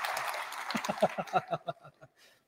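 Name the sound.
round of applause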